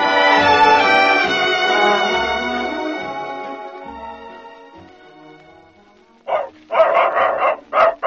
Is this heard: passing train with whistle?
no